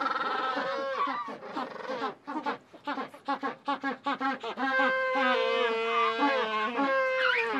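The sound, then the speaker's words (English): Gentoo penguins bray in a colony, loud harsh calls with a pulsing, rhythmic stretch of short honks in the middle, then long drawn-out braying from several overlapping birds. “So in Dutch, the word for gentoo translates as donkey penguin. And that's basically because of this braying call that they give off.”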